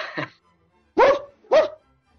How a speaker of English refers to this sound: And Gardner, he's got the dog in the background, man.